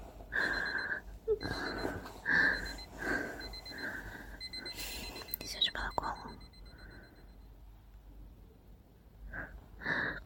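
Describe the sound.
An alarm clock, one of several set, rings again in repeated high electronic beeps that pulse steadily and fairly loudly, briefly pausing and returning, with soft whispery voices murmuring underneath.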